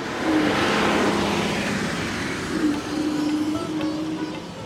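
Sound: bus engine accelerating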